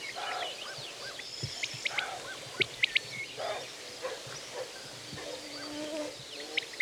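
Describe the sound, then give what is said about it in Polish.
A roe deer barks hoarsely in alarm in a meadow, several rough, nervous, somewhat longer calls spaced a second or so apart, while small birds chirp and trill in the background. “O, a tam takie szczekanie bardziej nerwowe, trochę dłuższe, chrapliwe. Wow! Z większą mocą, że tak powiem, to sarna, zaniepokojona.”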